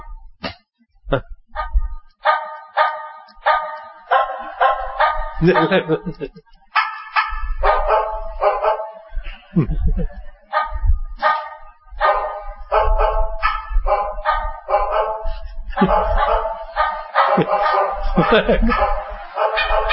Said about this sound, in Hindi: वो रिचार्ज हो गए, सारी रात भौंकते रहते। ऐसे ऐसे ऐसी बातें सारी रात गांव में कुत्ते भौंकते रहते, कोई शुरू कर देगा बस चल पड़े।